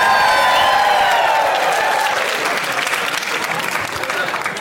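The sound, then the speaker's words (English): A loud live crowd bursts into applause and cheering, sustained clapping with a few whoops and shouts rising over the steady roar. “The crowds, how great are the crowds here”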